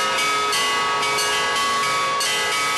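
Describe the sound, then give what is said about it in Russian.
Newly consecrated church bells of a small parish belfry in Okhotsk, Russia, rung by children, ring out loudly in a quick, uneven series of strikes, their bright metallic tones overlapping and sustaining between hits, with no voices present. “А первыми звонят дети, которых в Охотске, к счастью, становится все больше.”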